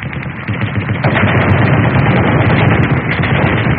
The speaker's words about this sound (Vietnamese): Bất chợt, hai loạt trung liên nổ ròn rã phía trước xe.